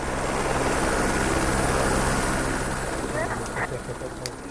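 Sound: helicopter landing nearby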